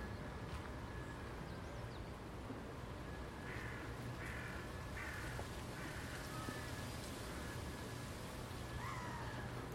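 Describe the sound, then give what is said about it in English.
Ducks and other birds on a park pond give a run of harsh, repeated calls, heard over a constant low rumbling of park maintenance machinery. “Lots of birds on the pond.”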